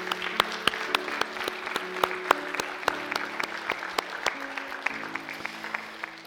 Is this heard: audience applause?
yes